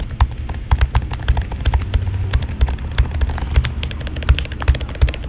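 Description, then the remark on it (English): Rapid, irregular clacking of mechanical keyboard keys struck at random, fairly loud, with sharp clicks and a low thock from each key bottoming out, continuing steadily throughout. “No, I'm just hitting random keys.”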